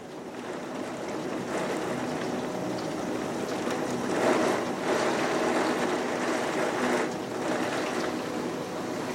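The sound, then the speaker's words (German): Steady rain patters against a window in a continuous soft hiss, swelling a little louder now and then before settling back. No voices are heard. “Nun bist du allein mit der Stille des Zimmers, dem gleichmäßigen Klang des Regens, der hin und wieder an dein Fenster prasselt, und dem leisen Flackern der Kerze.”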